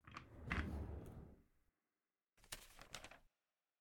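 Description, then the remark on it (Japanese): A desk drawer at a workplace slides open with a broad scraping rumble lasting over a second, then after a short silence a second burst of brief clattering, rattling knocks, fairly loud. “ほら、この引き出しだって。”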